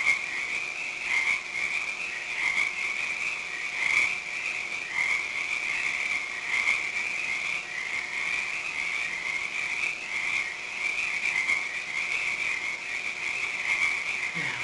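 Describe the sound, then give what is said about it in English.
A dense chorus of frogs croaks steadily throughout, a continuous rasping trill that rises and falls slightly but never stops. No one speaks. “Are the frogs still riveting?”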